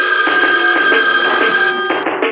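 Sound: telephone bell ringing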